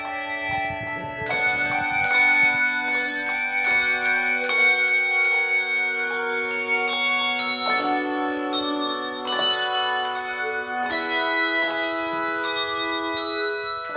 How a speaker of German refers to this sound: Toll ist das gemeinsame Musizieren einfach. Und der Klang der Glocken, der stand für mich von Anfang an im Vordergrund.